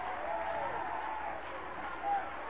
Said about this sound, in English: Oh, applause, applause, applause.